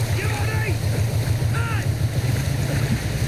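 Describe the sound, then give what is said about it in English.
A big barge's engine chugs steadily on the water as it passes close to a man treading water with a boy, a deep pulsing rumble, continuous, with wind and lapping water and a bargee's faint raised voice drifting over it. “The big barge chugs on.”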